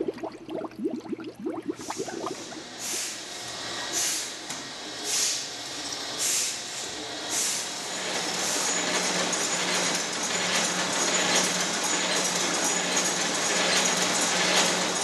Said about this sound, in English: If you have trouble recognizing those sounds, they're from the beer-making process, the bubbling of the CO2 gas coming off the fermentation process, and some bottling sounds from our tour from the Lakefront Brewery here in Wisconsin.